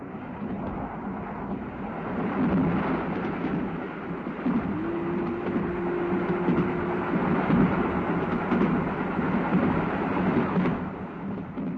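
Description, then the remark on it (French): A steam train, the Sázava Pacific on the Sázava line from Prague, Czech Republic, rumbles steadily along the rails, a dense, continuous roar with a low droning tone rising out of it midway before fading back into the clatter. No voices. “Et où prendre le train à vapeur, le Pacifique de la Sázava?”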